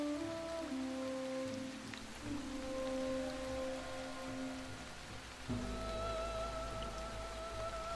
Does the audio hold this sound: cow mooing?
no